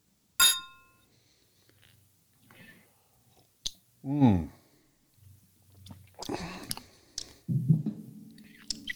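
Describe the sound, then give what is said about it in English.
A single bright clink of glasses in a toast rings out at the start and fades quickly, followed by quiet sipping, soft mouth sounds and low, murmured voices. “So I already poured mine because I wanted to let it sit a little while. Me too. So good stuff. So cheers. Cheers.”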